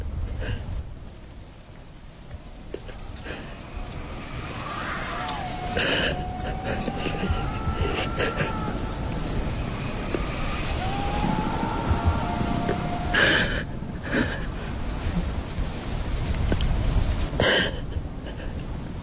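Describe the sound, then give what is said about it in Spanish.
Harsh, irregular panting breaths rise out of a steady noisy rumble in a recording for a short film, while a faint, thin wavering scream drifts in and out behind them a few times. “detrás de una especie de jadeo que hay, se oye algo estremecedor, que es una especie de...”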